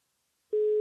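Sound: telephone call connecting tone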